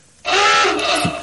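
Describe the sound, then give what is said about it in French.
After a brief silence, a loud alarm sound effect blares in abruptly, a buzzy, harmonic-rich tone like a truck horn, holding steady for about a second with no voices. “Quoi ce bruit de camion? Alors c'est censé être une alarme.”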